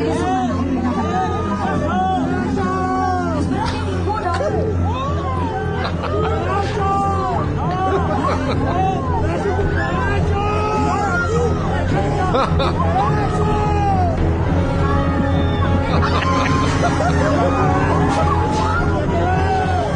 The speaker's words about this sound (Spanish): Lo increíble es que está Yuri en el escenario y la gente grita, ¡cucaracha! Y no sabe qué contestar.